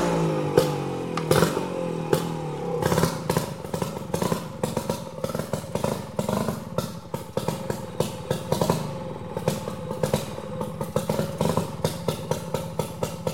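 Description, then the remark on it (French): A loud motor engine runs and revs, its pitch rising early on, then settling into a steady, rough rumble broken by sharp rhythmic clattering pulses throughout. “Les sons de moteur.”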